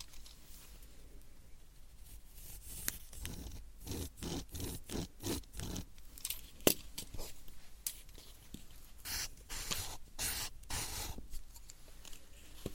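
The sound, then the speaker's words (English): Crisp scratching of a pen writing on paper beside the listener's left ear, in quick irregular strokes with brief pauses, quiet and intimate with no talking. “Another side with the pen.”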